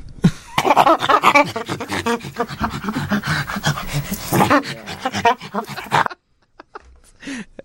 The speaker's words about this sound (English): It sounds like that monkey's up to no good when you play. Yeah, we had a little problem with the monkey with that. Got tangled.